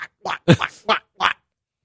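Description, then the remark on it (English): A person imitates a duck that got a piece of corn, making a quick run of about five short, nasal quacking sounds, fairly loud, with brief gaps between them. “The most I'll go with in like rough shit is the hard blowjob, so they sound like the fucking duck that got a piece of corn.”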